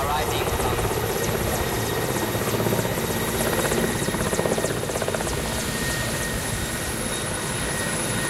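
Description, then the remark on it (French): A huge Soviet-era Red Army military helicopter in flight, heard on board as it arrives at Waikale, Congo, after a 50-minute flight: a loud, steady engine roar with a rapid rotor thump running throughout, with faint muffled voices underneath. “Voilà, on arrive à Waikale après 50 minutes à bord de cet hélicoptère.”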